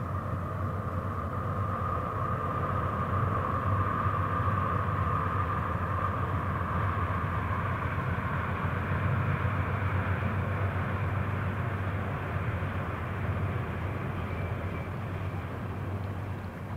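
A steady, broad rumble of a train rushing past at a distance on the railway on the other side of a river, holding an even roar for the whole stretch with a faint tonal hum riding on top and no voices.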